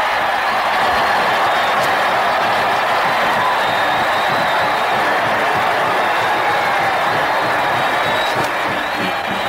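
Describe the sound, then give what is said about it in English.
A huge stadium crowd of about 82,500 roars and cheers continuously after a successful point-after-touchdown kick in a football game, a dense, loud wall of voices and whoops that holds steady for the whole stretch with no clear speech. “Listen to that crowd.”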